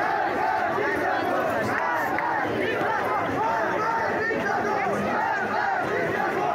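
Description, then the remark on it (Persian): A dense crowd of protesters in Sanandaj, joined with people of Saqqez on the day of Mahsa Amini's funeral, shouts slogans against the regime's top leader in a steady, loud roar, with overlapping calls rising and falling throughout. “در روز خاکسپاری مهسا امینی، دختر جوانی که قربانی گشت ارشاد شد، شماری از شهروندان سنندج هم به مردم سقز پیوستند و علیه شخص اول نظام شعار دادند.”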